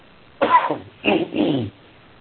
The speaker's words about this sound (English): I get rid of a cough here. Okay, there we go.